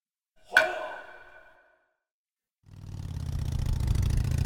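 A sharp metallic ping rings out and fades, then after a short silence a loud motorcycle engine roars to life during a police chase and keeps rumbling steadily to the end, with no voices.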